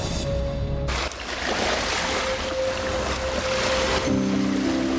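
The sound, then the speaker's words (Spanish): Ocean waves of the Sea of Cortez wash steadily against the shore, a loud continuous rushing surf that fills the whole stretch, with a faint steady hum underneath and no voices. “Sea Cortés en el mar de Cortés.”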